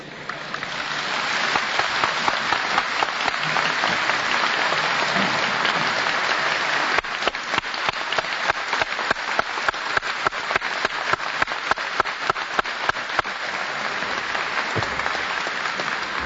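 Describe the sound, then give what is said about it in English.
A large audience breaks into sustained applause for an elderly woman speaker, dense and steady at first, then thinning into more distinct individual claps toward the end before swelling again. “You know you couldn't be applauding an old woman.”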